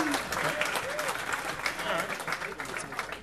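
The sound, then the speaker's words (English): An audience claps steadily for a few seconds to show they have seen the film Apocalypse Now, a dense, crackling patter of many hands with no clear rhythm, while a few voices murmur and call out underneath. “Clap if you've seen it.”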